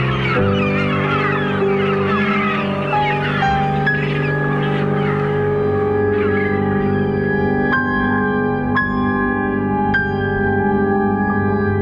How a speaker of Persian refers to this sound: در همهمه پرواز این مرغ‌های دریایی از شما خداحافظی می‌کنم.